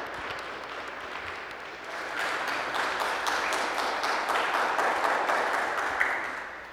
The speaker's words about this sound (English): Another round of applause for the choir.